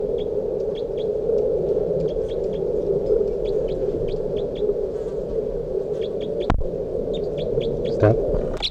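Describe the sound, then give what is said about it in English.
Short, high bird chirps repeat in quick clusters throughout, one bird calling in response to another bird that was just brought out, over a steady low droning hum, with a single sharp click partway through. “361 in response to bird 362, who I just brought out here.”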